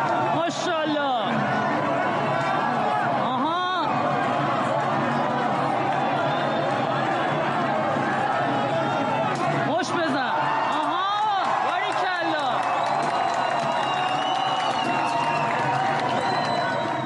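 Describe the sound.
A loud, dense crowd of street protesters in Sari, Iran, who set fire to an image of Ali Khamenei and threw stones at it, shouts and cheers continuously, with individual voices calling out excited exclamations over the steady roar and occasional sharp bursts of noise.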